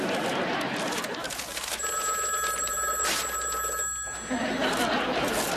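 A telephone rings with a bright, steady electronic trill lasting a couple of seconds, clear over a busy background of rustling noise, then stops.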